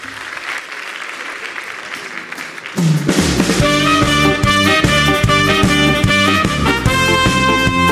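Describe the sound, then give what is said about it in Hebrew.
Steady audience applause for a singer invited to perform a medley, a dense crackle of clapping for about three seconds, then loud band music with a strong beat starts up and carries on over the last of the clapping. “ולמחרוזת הבא, אני אזמין חיפאי, כאח אולי, תנו מחיאות כפיים לזמר,”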